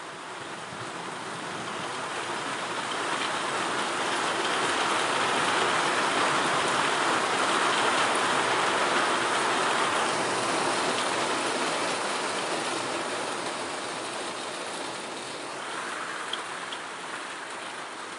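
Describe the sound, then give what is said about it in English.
Heavy rain from a rainstorm that cooled a hot day pours down in a steady, dense hiss of countless drops, swelling slightly in the middle and easing a little toward the end, with no voices. “Had too much thunder in this storm.”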